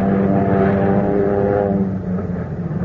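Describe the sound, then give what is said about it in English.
A loud, steady propeller airplane engine drones with a deep, rumbling hum as a brand new B-27 comes in to land. The pitch holds even, then eases slightly near the end, with no voices present. “Coming into land. Got a brand new B-27 with it.”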